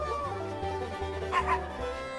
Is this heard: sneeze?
no